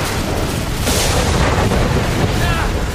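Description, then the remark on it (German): A loud thunderclap from a lightning strike during a storm: a sharp crack bursts out of a dense, rumbling roar that keeps booming and crackling steadily for the full three seconds. “Der Blitz ist eingeschlagen!”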